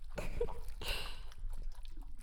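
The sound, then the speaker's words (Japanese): Soft wet squelching with a couple of louder sticky bursts near the start, then quieter slick smacking sounds trailing off. No voices. “スケベな水音が脳内まで響いて、全身が溶かされるような快感。”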